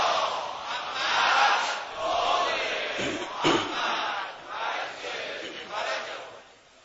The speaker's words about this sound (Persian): برآورده شدن حاجات، سلامتی مقام معظم رهبری، آمرزش اموات، گذشتگان، دوستان امیرالمومنین، مراجع عظام و هر کسی به گردن ما حق داره، یه صلوات بلند خط کنید.